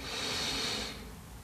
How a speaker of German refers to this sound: Wir nehmen den dritten tiefen Atemzug und atmen ein.